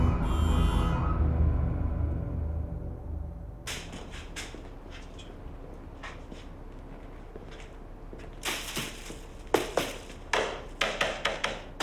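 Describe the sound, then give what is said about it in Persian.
Hammering nails into wood with a hammer, with irregular sharp knocks that start after a low, fading rumble and come in quicker, louder clusters toward the end. No one speaks. “متاسفم قربان، آخه بچه ها قبلا با چکش و میخ کار عملی نکرده بودن.”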